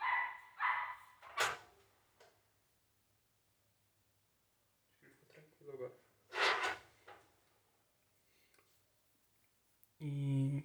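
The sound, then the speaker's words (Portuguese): A small dog lets out a few sharp, scattered barks, separated by quiet stretches, with some muffled voices and a brief clattering bump in the background. “Pô, o cachorrinho tá vacilando, né? Como foi o cachorro?”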